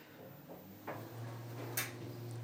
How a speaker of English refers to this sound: So we're just waiting for a lift now. Here we are. And doors closing. Lift going up.